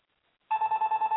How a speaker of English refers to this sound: Somebody's calling us on the phone.